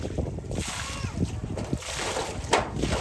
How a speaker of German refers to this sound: der im Krieg schwer verwundet wurde, schöpft mit dem Arm, der ihm noch verblieben ist, Wasser aus dem kleinen See unmittelbar vor seinem Zelt.